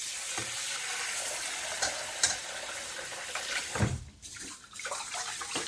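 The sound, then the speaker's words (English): Steady swishing and granular rustling of rice being washed by hand in a bowl of water, with soft splashes and a brief louder slosh near the end; no one speaks. “I like to pour it into a sieve and then pop it back into the bowl and wash it again.”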